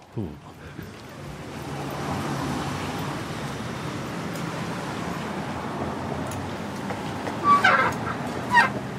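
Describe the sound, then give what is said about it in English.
Steady low engine rumble of a bus ride through traffic, filling the whole stretch, with two short horn honks near the end. No one speaks. “just a short bus ride over to HeadGum”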